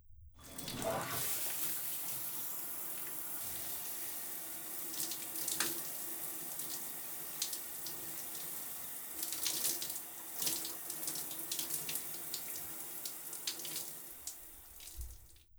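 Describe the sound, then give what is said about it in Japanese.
Shower water runs steadily, a continuous hiss of spray with occasional splashes and shifts in the flow, lasting throughout with no voices. “では、早速始めたいところですが、まずはシャワーを浴びてきてもらえますか？”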